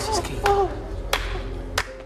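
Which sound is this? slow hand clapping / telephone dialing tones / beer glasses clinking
slow hand clapping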